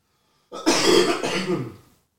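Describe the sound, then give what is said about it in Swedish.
A single rough throat clearing that rolls into a short cough, loud and raspy, lasting about a second and a half with no talking around it. “Vänta, jag måste hosta igen.”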